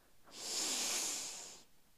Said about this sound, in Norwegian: Og vi prøver en gang til. Pust godt inn.